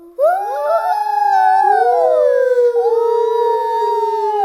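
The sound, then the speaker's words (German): A voice imitates a wolf howl as a spooky sound: a long, loud, sustained howling that rises and wavers in pitch for several seconds, alone with no talking. “Wolf. Ein Wolf macht zum Beispiel so.”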